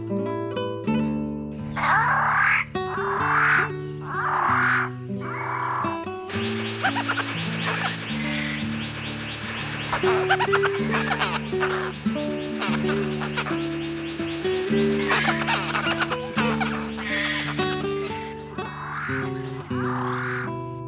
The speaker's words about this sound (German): Das war der Paradiesvogel.